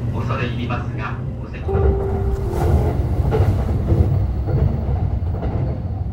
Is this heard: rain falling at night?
no